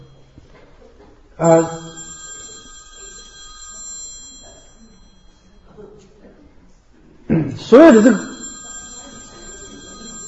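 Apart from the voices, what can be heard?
alarm clock ringing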